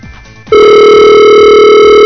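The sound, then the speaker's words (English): A loud, steady electronic telephone tone kicks in after a half-second of faint background noise and holds unbroken to the end, as when a call rings out. No one speaks. “Okay, so I'm just ringing Mike now. Hopefully, and you should all hear that.”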